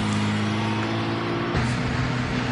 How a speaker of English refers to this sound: What is up with the traffic today? It's always, every day, this intersection's always crowded. I hate pulling out of here.